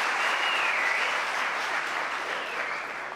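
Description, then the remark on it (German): An audience applauds a volunteer after a vinegar-and-baking-soda balloon demonstration, a dense and even wash of many hands clapping at once. The sound holds at a constant loudness for about three seconds and eases slightly at the very end. “Okay, genau, das ist dein Applaus”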